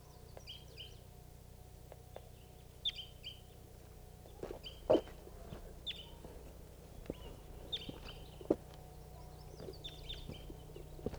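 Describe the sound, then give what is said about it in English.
A type 2 crossbill, a wild bird that had just arrived, calling: short, high-pitched chip notes repeated at irregular intervals, fairly faint over a quiet background with a few sharp clicks and taps. “Recording a crossbill just got here.”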